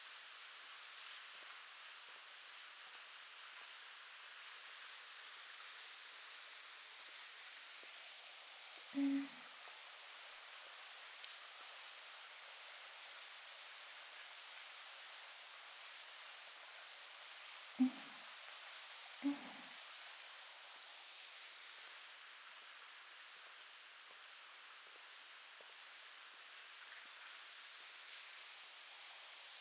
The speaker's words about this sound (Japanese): お客様も行ける範囲で滝を見に行ってみるといいですよ。音だけで感じるときもいいけど、実際に間近で見てみると全然違いますから。